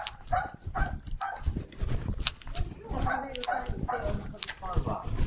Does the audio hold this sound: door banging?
no